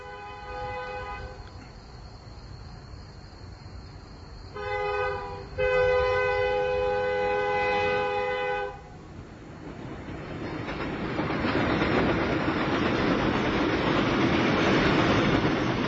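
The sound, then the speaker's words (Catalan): A train horn blows in long harmonic blasts, one early and a louder one midway, as the train passes a level crossing, then the train rumbles past with a rising roar of wheels and rushing noise. “Ara escoltarem el tren com passa per un pas a nivell.”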